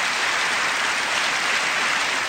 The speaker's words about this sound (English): So here we go, a little more. Listen to the applause.